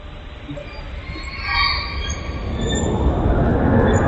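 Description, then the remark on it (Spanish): A space recording of ions and electrons colliding: a steady, low rushing rumble that builds into a broad hiss, overlaid with thin, high whistling tones that waver and chirp. No voices. “Y estos son, lo que viene ahora son iones y electrones chocando entre sí, por favor.”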